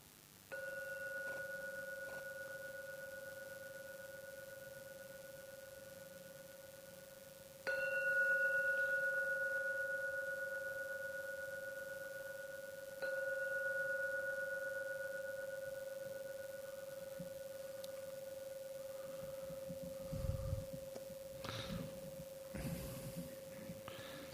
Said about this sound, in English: I'm now going to ring the gong 3 times. So listen to the gong. At the end of the 3rd ringing, open your eyes. At the end of the 3rd ringing of the gong.